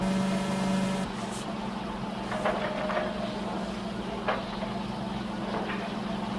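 A pinball machine hums and buzzes steadily, with a few sharp clacks and brief electronic tones ringing out at irregular moments, with no voices.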